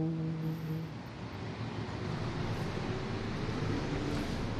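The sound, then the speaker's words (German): A steady rumble of city traffic around the Celio hill in Rome fills the air outdoors, a continuous wash of engine noise with a low hum early on and no voices. “Draußen wieder Vogelgezwitscher, der römische Verkehr, der den Celio umspült.”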